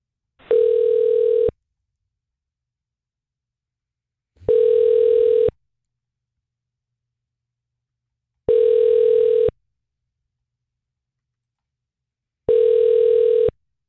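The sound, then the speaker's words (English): A phone call to Gainesville Middle School East rings unanswered on the line: four even, buzzy mid-pitched ringback tones, each about a second long, separated by silent pauses of about three seconds. No one speaks. “I don't think they're going to pick up.”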